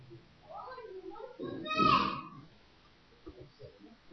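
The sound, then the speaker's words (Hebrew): Children's voices chatter in the background, rising into a brief, louder high-pitched burst midway before fading back to a low murmur. “ומי הילדים”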